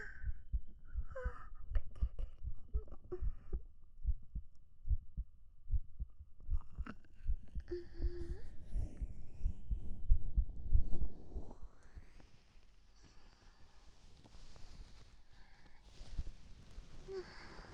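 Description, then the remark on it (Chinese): A young man's steady heartbeat thumps in a quick, strong, regular rhythm, loud and muffled, then fades under a soft breathy hiss toward the end. “已经好喜欢听你的心跳声，现在不用仔细听就能感受到他跳的有多快有多有力了。”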